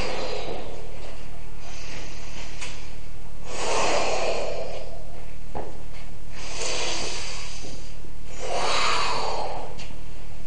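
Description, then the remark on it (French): A huge buffalo with big black horns, lying on the ground, snorts loudly in three heavy, breathy blasts spaced a couple of seconds apart, each a rough rush of air with no talking. “Alors elle s'assied dans un petit buisson, et à ce moment-là, elle entend un soufflement énorme.”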